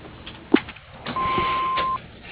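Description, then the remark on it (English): The answering machine beep of Gintel, Paint, and Stain: one steady, mid-pitched electronic tone lasting close to a second, preceded by a soft click and low telephone-line hiss, with no one speaking. “To leave a message or send a fax, just wait for the beep.”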